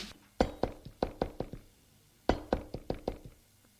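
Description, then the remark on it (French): Two bursts of firm knocking by a maid on the bedroom door of Charles André, each a quick run of about six or seven raps, separated by a short pause. The knocks are distinct, with no voices. “Elle va frapper à la porte de Charles André.”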